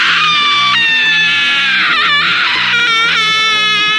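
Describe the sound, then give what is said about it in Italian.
A loud, desperate scream rises and wavers in long, strained bursts, breaking briefly and resuming, over a low rhythmic pulse in the background. “Grande grido disperazione casareccio che onubla la felicità del giovane e del meno giovane, altrimenti spensierato ribaldo nel suo essere lanciato nel gonfiarsi la panza di luppolo.”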